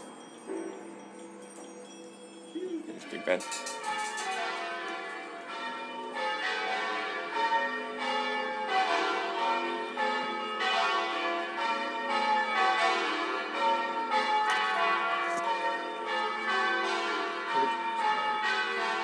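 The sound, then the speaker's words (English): A peal of church bells rung for the beginning of the London Olympics rings continuously after a brief quiet start, overlapping strikes building into a dense, steady cascade of tones that carries on without pause. “the beginning of the London Olympics, and the nation is about to ring out its bells. I thought for a moment that the local church had gotten a little bit early, and but it sounds as though they were just practicing.”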